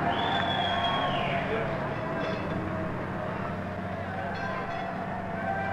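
The last route 54 tram to leave Victoria, with 'goodbye' chalked on its dash and showing New Cross Gate, rumbles steadily past. Its low mechanical drone runs throughout, with a high whining tone sliding downward early on and a murmur of crowd noise underneath.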